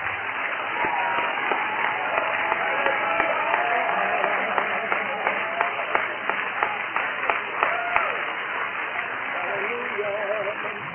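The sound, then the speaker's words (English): An audience claps and shouts together to the Lord, sharp irregular handclaps popping over a dense, steady roar of raised voices that holds for the whole stretch. “One more time, clap your hands to the Lord and shout to Him.”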